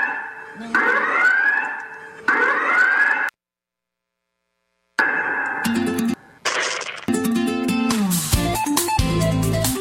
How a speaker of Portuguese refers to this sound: Marquinhos, bote aí a sirene. A sirene.